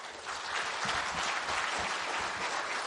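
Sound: audience clapping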